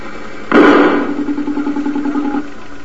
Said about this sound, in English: Well, that's the backfire problem in a research engine, and we can't have that in a motor car.